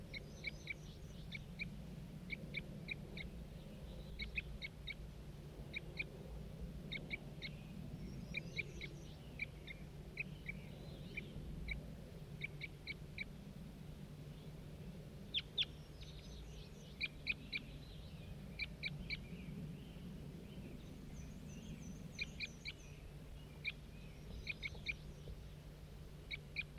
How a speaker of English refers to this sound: Start recording that same wild bird.